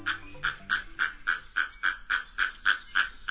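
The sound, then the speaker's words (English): Little blue herons feed at the edge of a wooded pond in the south; one squawks in a rapid, steady series of about a dozen harsh, raspy calls, evenly spaced, with no voices. “Two herons, one dark, the other white, feed at the edge of a wooded pond in the south.”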